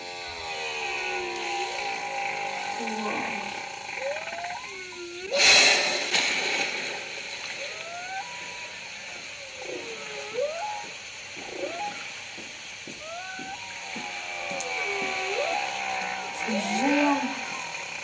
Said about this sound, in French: Et t'as déjà entendu un son de baleine ? Peut-être une fois quand j'étais au Canada, mais sinon, non.